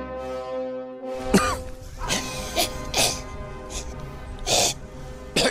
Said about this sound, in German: Sie sind alle fortgegangen. Ich hätte es an dem Zischeln, Scharren, Räuspern, Brummen durch alle Tonarten bemerken können.